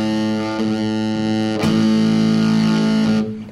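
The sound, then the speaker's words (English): An electric guitar played through an amp's overdrive distortion channel rings out with thick, buzzing distortion, one sustained chord shifting to another about halfway through, loud with no talking. “Now that's the distort that the amp is on its overdrive.”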